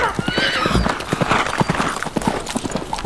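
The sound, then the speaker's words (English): A horse named Minstrel gallops away with its rider, rapid, rhythmic hoofbeats pounding steadily over a rough outdoor ambience, with a brief high whinny near the start. “Put Minstrel to a good gallop.”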